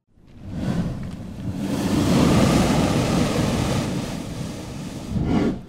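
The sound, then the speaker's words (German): Waves slap and surge against hollow cliff rock below, hollowed out for a good 20 meters, a deep booming rush that swells, lingers, then fades before a fresh splash near the end. No voices. “Man hört richtig, wie die Wellen unten so dagegen klatschen.”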